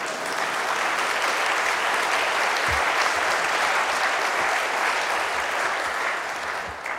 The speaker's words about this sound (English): That's gorgeous. Come on, give me some clapping for that.